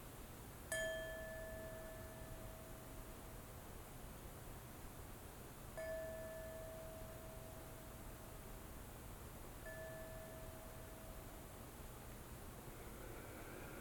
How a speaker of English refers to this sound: And we can think of this, a very good way to reach this is through listening. So I just want to sound the bell just for a minute and just invite you to listen to it.